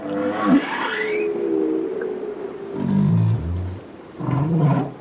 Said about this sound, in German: Erst als wir die Walgesänge unter Wasser aufnahmen, konnten wir alle zählen und zeigen, dass es wieder Tausende gab.